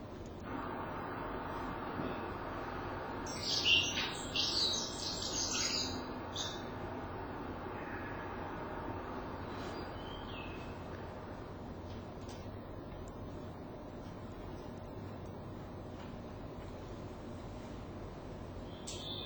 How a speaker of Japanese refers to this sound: サメビタキの、さえずりです。